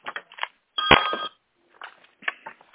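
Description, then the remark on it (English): A short electronic telephone ring sounds once, bright and tonal, briefly standing out amid muffled background chatter and noise during a bid opening where bid amounts are read aloud. “Please mute your phone.”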